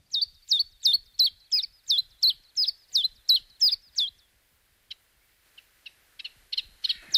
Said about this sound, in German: Ja, der heißt so, wie er singt. Also in den Ohren des Namensgebers singt er Zilp, Zalp, Zip, Zip, Zip, Zalp, Zip, Zalp, Zip. Der heißt Zilp, Zalp. Der Zilp, Zalp. Auf Englisch Shift, Shift. Passt besser, finde ich.